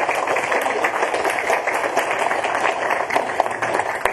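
An audience breaks into steady applause, a dense, even wash of many hands clapping at once that holds at a fairly loud level for several seconds with no voices over it.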